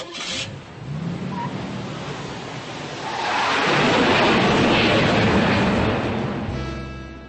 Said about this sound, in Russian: иногда это художественно утрировалось, как там на машине уезжал, но это такое имело значение, что мы вставили звук самолет.